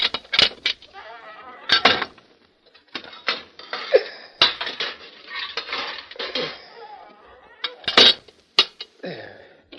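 Metal bread pans clatter and scrape against metal as they are pushed into a stove oven to bake bread, with sharp clanks and clinks scattered irregularly over several seconds, some loud bangs and lighter rattles between them.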